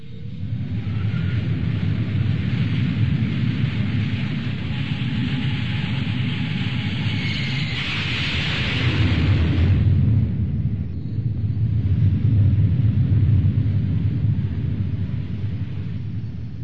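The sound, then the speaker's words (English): An F-14 fighter jet's afterburner roars through a takeoff, a loud, continuous thundering blast with deep rumbling low end that surges and swells, heard alone with no voices. “in my memory, blasting off into a California twilight, gear coming up, wings sweeping back to form a perfect delta, engines thundering through my body, and watching as it etches its supremacy into the sky with luminous afterburner tails.”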